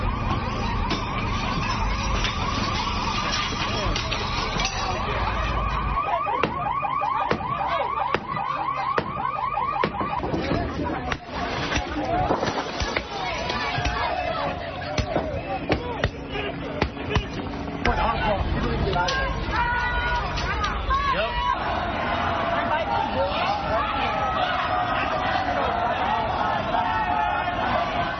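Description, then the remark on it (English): A chaotic street riot with a car alarm wailing and sirens cycling, layered over shouting crowd noise and constant loud commotion that never lets up. “But riots broke out in response as if on cue.”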